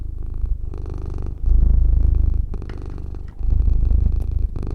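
cat purring loudly

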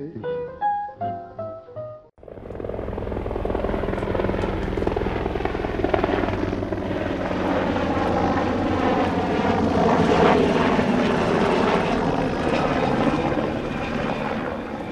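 helicopter flying overhead

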